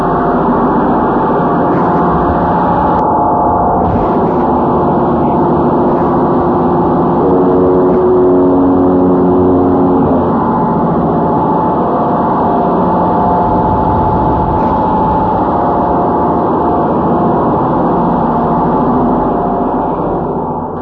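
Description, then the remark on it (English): Loud, steady roar of two diesel engines running together in an engine room, a dense continuous mechanical drone with a low throb and no pauses. “I'm going to take this thing out in the engine room. We have both diesels going.”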